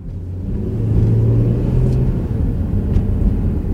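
A car engine rumbles loudly and steadily, its low tone rising slightly as the car speeds off from a street carrying a prisoner with two Gestapo members, headed for Pawiak prison, with no voices present.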